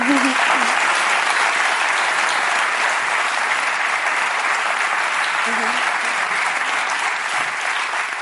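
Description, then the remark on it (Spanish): An audience breaks into sustained applause, a dense, steady wash of clapping that stays loud and even for several seconds without letting up. “Un aplauso, joder.”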